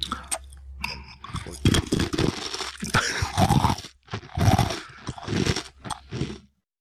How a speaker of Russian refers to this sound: В конце новая … не выдерживает, из пафосной ноты соскакивает к привычному контенту и с удовольствием хрустит сушкой прямо в микрофон.